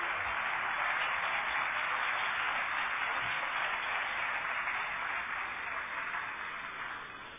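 Sustained applause from a crowd at a bullfighting awards ceremony, for a matador, a dense steady wash of clapping that holds for several seconds and then tapers off slightly at the end, with no voices.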